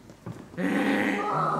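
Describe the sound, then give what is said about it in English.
A person does a loud, strained donkey bray, a sustained nasal honk that drops in pitch near the end, following a brief quieter vocal sound at the start. “With the exception of the donkey, who's probably out of breath”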